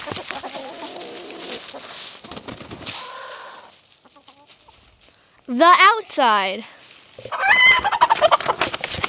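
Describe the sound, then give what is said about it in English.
A person briefly tells a chicken joke, then chickens cluck loudly in two bursts of squawky, wavering calls that fill the last few seconds. “Hello and welcome to the Daily Chicken Podcast, where every day we tell chicken jokes to chickens.”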